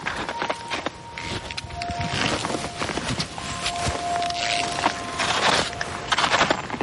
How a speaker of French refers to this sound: Et on entend les oiseaux. Oui, c'est magnifique. Hein. On est dans un coin qui est absolument magnifique. On entend les oiseaux, il n'y a pas un bruit.